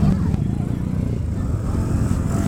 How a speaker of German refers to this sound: Guck mal hier, jetzt so ein Ding fahre ich. So eine kleine Harley. Das ist cool. Das sind die Minis. Die Harley Minis.